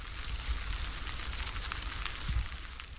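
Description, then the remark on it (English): Mealworms eating a bat carcass: a dense, steady crackling and ticking that sounds much like light rain pattering on a roof or food sizzling, continuous, with no voices. “Until I tell you that that's not actually the sounds of rain on the roof, but is in fact the sounds of mealworms eating a bat carcass.”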